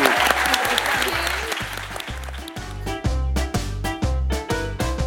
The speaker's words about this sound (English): Please give a huge round of applause to amazing Tim Key, everybody.